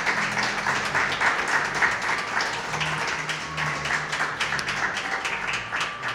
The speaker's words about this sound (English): One more round of applause for the ladies.